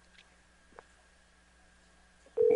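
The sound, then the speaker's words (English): Faint, steady telephone line tones hum quietly with a soft click partway through, then a loud phone off-hook signal abruptly cuts in at the very end, before a recorded message to hang up and try again. “If you'd like to make a call, please hang up and try again.”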